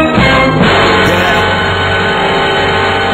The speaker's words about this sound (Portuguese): O toque do celular dela, do despertador, é esse aqui.